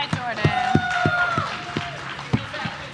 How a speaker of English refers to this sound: Ladies and gentlemen, clap it up one more time for